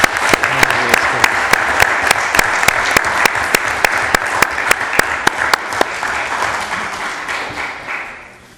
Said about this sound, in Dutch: Ik zou zeggen, een hartelijk applaus voor.